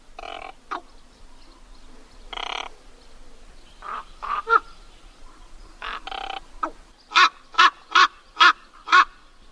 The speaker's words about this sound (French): Alors là, on est à nouveau avec un corbeau, il me semble. Un grand corbeau, le plus grand des corvidés, qui est noir du bout des pattes au bout du bec, avec un très gros bec noir